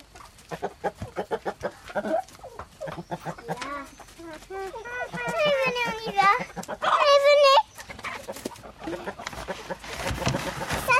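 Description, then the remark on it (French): Hens cluck in a busy, overlapping stream of short calls and drawn-out squawks as they are fed bread, with a few louder bursts near the middle and a person talking intermittently. “Allez les poupoules, mangez les poupoules.”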